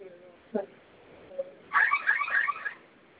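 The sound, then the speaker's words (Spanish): A home security alarm keypad, its two fire buttons pressed together for five seconds to register a new code, sounds a quick burst of bright, warbling electronic beeps lasting about a second, preceded by a couple of faint short tones over low background noise. “Sonó su alarma y vamos a registrar su clave nueva.”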